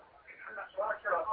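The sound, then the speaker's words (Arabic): Muffled television sound carried over a caller's phone line into a call-in broadcast: thin, tinny voices with no low end, steady and moderately quiet, swelling slightly toward the end, with no clear close-up speaker. “طيب هلا خرجت صوت التلفاز قليلا وكلمتني عبر الهاتف.”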